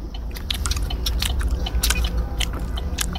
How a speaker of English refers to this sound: That chewing was incessant. And that was actually like a more relaxed chewing.